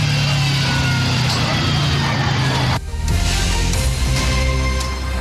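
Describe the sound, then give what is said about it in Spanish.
A car engine revs hard at maximum RPM with a loud, sustained roar as the vehicle tries to escape, briefly dipping near the middle before climbing again to full strain. “Ahí ustedes escuchaban la homocinética del vehículo a máxima revolución por minuto, el motor más que todo para tratar de escapar, no pudo hacerlo, finalmente fue detenido por personal de seguridad ciudadana de la misma comuna”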